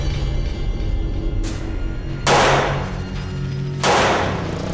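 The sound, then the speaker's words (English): Two gunshots, fired at night by a gunman at a man sitting in a car, ring out about a second and a half apart, each a sharp, loud crack with a short echoing tail, over a low steady background rumble with no talking. “We just hear a gunshot. Two gunshots.”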